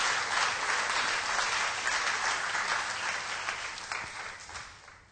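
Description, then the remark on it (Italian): Sustained applause from a crowd offered to the Lord as thanks, a dense wash of many hands clapping steadily for several seconds, gradually thinning and fading toward the end. “Facciamo un applauso al Signore, gli diciamo grazie.”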